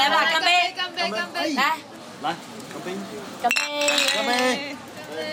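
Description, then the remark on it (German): Glasses clink together in a Chinese toast (Ganbei) in China, several bright ringing chinks scattered across the moment, with a cluster of clinks partway through, all over lively overlapping chatter from a crowd. “Ja, so prostet man sich in China zu mit Ganbei und wortwörtlich übersetzt bedeutet das trockenes Glas.”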